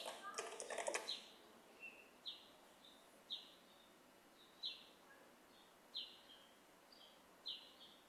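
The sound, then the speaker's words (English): Birds chirp repeatedly in short, bright bursts about once a second, heard through an open window, with a brief rustling clatter at the very start and a quiet background hiss. “Also, I'm kind of loving the bird sounds.”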